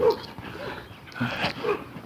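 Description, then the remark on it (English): A dog gives a few short, agitated barks mixed with high whimpering whines in uneven bursts, stirred up by a lady walking another dog ahead, in the morning, with no one speaking. “There's a lady with a dog walking ahead of me and got this dog all stirred up before they left.”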